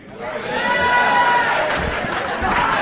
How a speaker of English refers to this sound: See? I knew there'd be a few women in the back that would clap for that.